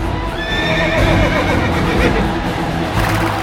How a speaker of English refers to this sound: Their horses begin to run as fast as they can.